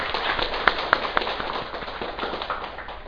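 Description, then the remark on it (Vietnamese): An assembly applauds after reciting the vow of taking refuge in the Three Jewels, with dense, steady clapping that fills the space, a few sharper claps popping out early before the sound settles into an even, continuous patter. “Xin quý vị vỗ cho mình một tràng pháo tay.”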